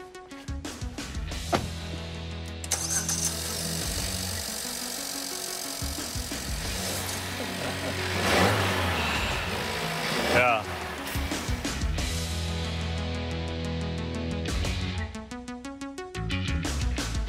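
An unmodified car engine cranks and starts up, then settles into a steady, throaty idle with a brief rise in revs midway before dropping back to a rumbling hum.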